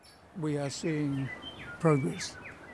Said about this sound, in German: Man kann es auch hören. Die ersten einheimischen Vögel sind zurückgekommen.